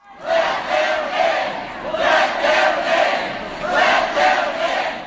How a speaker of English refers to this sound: Out in Utah last week, everybody saw this. Jason Chaffetz, congressman there, confronted by a huge, rowdy crowd of demonstrators at a town hall meeting in Salt Lake City suburb who wanted an overflow crowd outside to be allowed in.